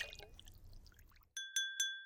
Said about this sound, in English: You guys, let's toast. Cheers. Cheers. Ching ching. That ching, was so ching. Fun.